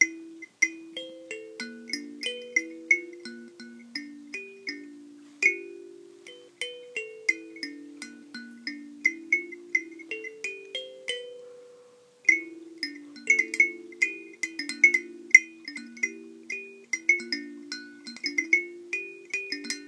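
An instrumental tune plucked on a thumb piano, with bright metallic notes in a steady, lilting rhythm and short ringing decays, brief pauses between phrases, and no voices.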